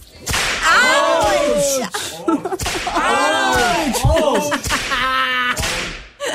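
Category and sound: sound effect, whip cracking sound effect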